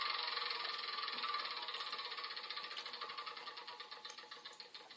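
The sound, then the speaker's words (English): A board game spinner is spun for a player's honeymoon turn, whirring with a rapid, steady stream of plastic clicks that gradually slow and grow more spaced over about five seconds. No one speaks. “Now take a honeymoon. You spin.”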